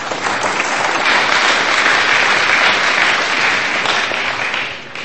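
An audience claps steadily for about five seconds, a dense, even wash of many hands that stays loud throughout before beginning to thin out at the very end.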